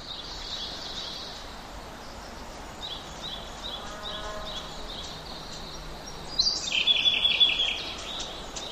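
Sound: birds chirping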